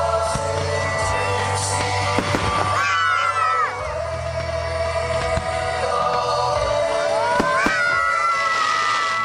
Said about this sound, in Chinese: 同当地居民一道参加了烟花晚会